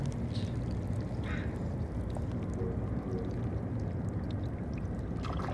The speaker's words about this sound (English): The water moves calmly through crevices. The barnacles put out their fingers to feed on the water. The tiny clicking sounds that you hear are the meeting of the water and the barnacles. It trickles and clicks and sucks.